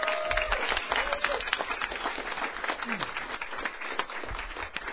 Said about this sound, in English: So can I give a round of applause